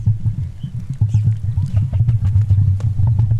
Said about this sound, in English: They fill that sac up. They've got a little hole in their esophagus, I suppose, at the bottom of their neck there. They fill the sac up with air, and I suppose it's like a bagpipes, and then they make the booming noise through the sac.